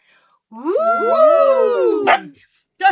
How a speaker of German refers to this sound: Selbst unser Hund freut sich.